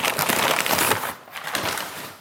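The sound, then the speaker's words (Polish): Loud crackling and rustling of ordinary protective packing paper being crumpled while unpacking a package, a dense burst for about a second, then a brief pause and a few more irregular crinkles. “Papiery zabezpieczające to wszystko.”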